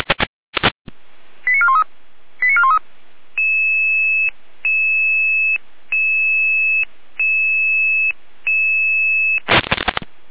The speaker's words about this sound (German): Alarmierung.